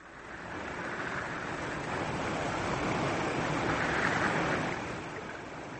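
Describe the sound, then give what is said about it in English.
A steady, broad wash of the Amazon River's flowing water fills the scene, a continuous rushing roar that swells slightly in the middle and eases near the end, with no voices. “That's the mighty Amazon River.”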